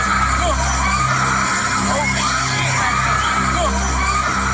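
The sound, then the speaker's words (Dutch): A woman screams as she is flung back and forth in her seat on a bungee catapult fairground ride in Amsterdam after her safety bar came loose, her rising and falling cries cutting through a loud, constant wash of crowd noise and mechanical rumble. “In een filmpje is te horen hoe de vrouw schreeuwend heen en weer wordt geslingerd.”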